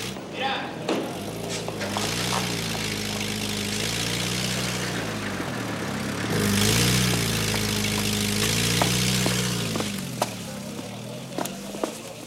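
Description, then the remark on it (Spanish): A taxi engine idles with a steady, low rumbling hum whose pitch wavers and swells slightly a few times, joined by scattered sharp clicks and knocks throughout, as a passenger pays and gets out of the taxi. “Trini paga, sale del taxi y se dirige a la casa de Luisa.”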